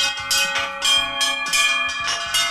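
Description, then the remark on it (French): Church bells rung by bell ringers in the village of Bourignon ring out in a steady, overlapping peal. Several bells are struck in quick succession with bright, sustained metallic tones that layer and ring on continuously. Loud, with no voices. “Mais ce qui est le plus étonnant, c'est que dans cette commune, il y a des sonneurs de cloches.”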